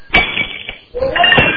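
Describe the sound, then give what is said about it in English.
Two loud, sharp crashes of tile being dropped and smashed on a hard floor, picked up by a phone placed on the ground, each followed by bright clinking and rattling of scattering shards, with a short lull between them. “Can you put the phone on the ground where you're dropping the tile?”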